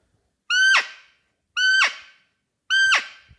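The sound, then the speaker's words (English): Three loud, high-pitched squealing calls, each about half a second long and evenly spaced, made with a Butolo call tool, imitating the cry a female roe deer gives when chased by a male buck. No talking. “And then as you progress, the second call is pretty much what the female roe deer does if it gets chased by a male buck.”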